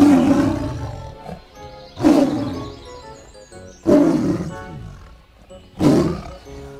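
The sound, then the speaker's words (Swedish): A tiger roars four times in a steady rhythm, each roar a loud, rough burst that quickly fades into rumbling growls before the next one starts. “En tiger. En motorsåg. En tiger. Superbra!”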